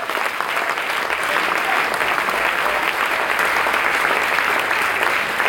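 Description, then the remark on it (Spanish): A large church audience claps steadily and enthusiastically in applause to the Lord, a dense, sustained wash of applause at a fairly loud, even level throughout. “Un aplauso al Señor.”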